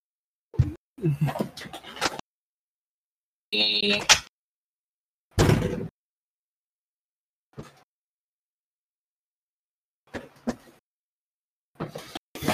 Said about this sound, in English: Hold on, let me open my door. I'll be right back.